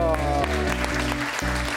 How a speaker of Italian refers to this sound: Un applauso.